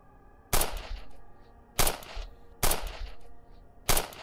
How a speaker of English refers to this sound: The door was only a few inches open when I heard the first shots ring out. I squatted down and covered my ringing ears.